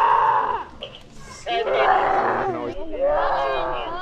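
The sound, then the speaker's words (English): Several children watching a male tiger, Bandar, in the tiger's enclosure roar and growl with high, strained voices in imitation of a big cat, in overlapping bursts with a brief lull, then a rising, wavering chorus of mock roars. “And all the kids watching start roaring instinctively.”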